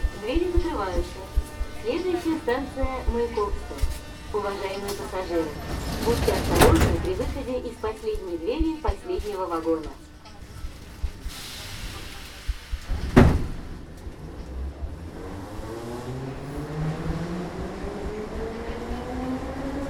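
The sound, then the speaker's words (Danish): Ambience of Mayakovskaya metro station in Moscow, Russia: voices echo over a steady rumble, sharp bangs of sliding doors shutting, then a train's motor whines upward in pitch as it pulls away. “så er vi nu ankommet til Majakovskaja metrostation i Moskva.”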